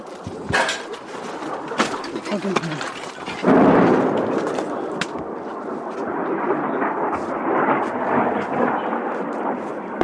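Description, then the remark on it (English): Artillery from an ongoing battle in the war in Ukraine rumbles and booms in a steady, continuous low roll, with a few sharper thuds standing out, while birds coo faintly. “You can still hear the artillery battle going on.”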